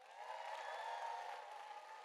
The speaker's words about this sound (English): So today, in today's service, right at the beginning, you may remember we sang, O Come All Ye Faithful. Just through the medium of a round of applause, if you think that's a banger, make some noise.